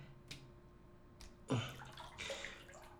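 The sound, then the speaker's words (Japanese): Water sloshes and splashes softly in a hotel bubble bath tub, a couple of light swishes followed by a fuller stirring movement, fairly quiet, with no voices. “へえ、泡風呂って初めてだけど、こんな風になってるんだ。ホテルの風呂って広いからいいよね。”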